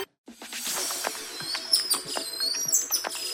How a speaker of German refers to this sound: Was hier so fiebt, das ist ein Affe, ein goldenes Löwenäffchen, so klein wie ein Eichhörnchen, aber hat eine spektakuläre goldene Mähne, bisschen wie ein Löwe und daher kommt auch der Name.